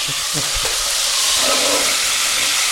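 Steady, loud sizzling of a few meat pieces browning in a pot, a dense hissing crackle that fills the whole clip, with a few low knocks at the start.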